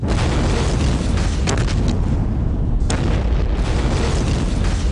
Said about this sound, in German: Der vierte Block des Atomkraftwerks Tschernobyl explodiert.